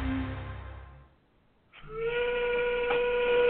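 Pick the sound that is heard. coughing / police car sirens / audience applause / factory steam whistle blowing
factory steam whistle blowing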